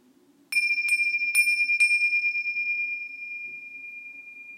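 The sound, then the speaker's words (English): A bell out on the street is struck four times in quick succession, each bright, high-pitched strike blending into a long, steady ring that slowly fades over a faint low hum. “noticing soft, subtle sounds like the breath, sounds from the room, and louder, more intermittent sounds like my voice from the street, the bells.”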